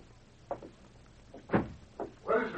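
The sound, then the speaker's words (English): A broken door, blown open by the wind, knocks and creaks in a few uneven bursts: a short knock, a louder thud, another bump, then a longer scraping creak, with quiet between them and no voices. “Just the door, it's broken. The wind blew it open.”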